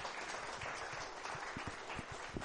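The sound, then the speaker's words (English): A crowd gives a brief, half-hearted round of applause to welcome a guest up to the front, scattered claps blending into a soft, even patter that never builds and stays fairly subdued throughout. “That wasn't a very enthusiastic clap, was it, really?”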